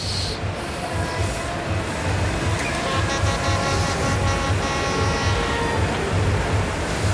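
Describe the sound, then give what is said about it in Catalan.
A steady, buzzing drone of vuvuzelas blares continuously in the background, several horns overlapping at slightly different pitches over a low, pulsing rumble, with no one speaking, on a fine, mild day with no rain. “Són bubuzeles, això que sentim de fons.”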